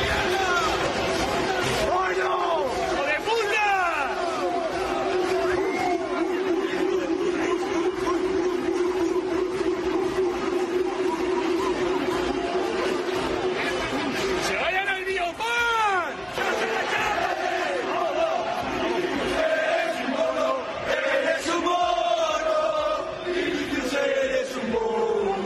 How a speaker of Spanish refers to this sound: Estos cánticos, repito, eran fuera de Mestalla y así le daban la bienvenida al delantero brasileño del conjunto madridista.